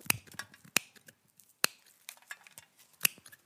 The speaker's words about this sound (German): Schau mal, Amy schnippelt an der Zeitung rum und sie schneidet was aus. Wird das eine Krone?